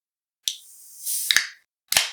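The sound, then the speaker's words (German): A can of Austrian premium beer being pulled open: a sharp metallic crack followed by a fizzing hiss, then another pop and a final crisp click with a short trailing fizz. No one speaks. “Genau, jetzt reiß auf die Kanne.”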